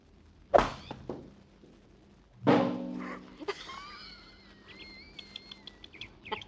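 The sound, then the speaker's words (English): A sharp hollow thunk as the governor tees off with a number 3 iron, then a second louder metallic clang with a ringing tail as the golf ball hits a water tank, followed by faint chirping bird calls. “Well, that's too bad that water tank was in the way.”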